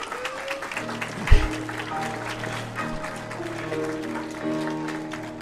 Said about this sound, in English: I, for some reason, thought you were clapping for your wife. I was like, such a good husband.